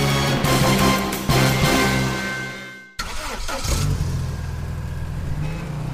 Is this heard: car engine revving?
yes